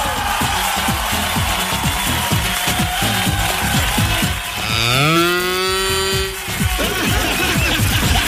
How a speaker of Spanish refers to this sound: Oye, la vaca potente. Me lleva a dar miedo. A ver, pero hay más despacito, más despacito. Está buena la vaquita